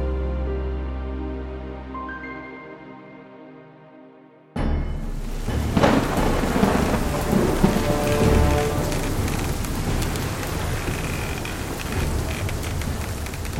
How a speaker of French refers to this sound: 29 septembre 1759. À 600 km des côtes du Chili, une violente tempête secoue les flots de l'archipel Juan Fernandez. Des vagues gigantesques font tanguer un navire, la Virginie, qui a rentré ses voiles et ses hommes.